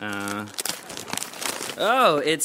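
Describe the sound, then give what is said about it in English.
Paper crinkles and rips in a quick, noisy flurry of rustling tears, like gift wrap being pulled open, with brief vocal sounds before and an excited voice rising and falling right after. “choose a gift and open it up”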